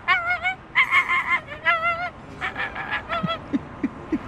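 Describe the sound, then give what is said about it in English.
A voice imitating an American flamingo gives a rapid series of nasal, goose-like honks, fairly loud, then a few short low chirps at the end. No talking. “The American flamingo.”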